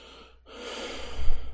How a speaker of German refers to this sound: Oh, genervtes Schnaufen.